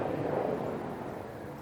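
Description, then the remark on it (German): A helicopter passes overhead, a steady, fairly loud rumbling drone with a broad whooshing roar that fades slightly toward the end, with no one speaking. “Jetzt kommt gerade ein Helikopter.”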